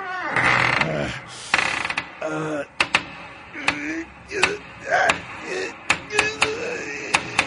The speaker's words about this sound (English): Oh, first I got to open the door so we can look in there. Oh, wait a minute. I can't quite get the door. Give me a hand, will you? Right here.